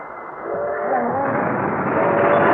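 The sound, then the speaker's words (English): A train approaches a level crossing as a New York City cab races it to the crossing, its broad mechanical roar swelling steadily louder over a few seconds, with faint tonal whine or horn-like notes threading through the noise. “What's that? Is that the train? Yeah, it's just at the crossing.”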